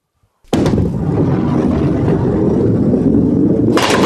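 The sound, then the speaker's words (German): A heavy ball thuds down on a skittle (Kegel) alley and rolls with a loud, steady low rumble for several seconds, ending in a sudden bright clatter as the skittles are struck. No voices. “Und hier mit der Kugel versuche ich gleich, die Kegel da hinten umzukegeln.”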